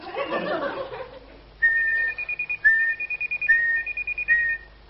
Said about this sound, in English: But I don't want to whistle too much. I'd hate to end up with a permanent pouch like the doctor's.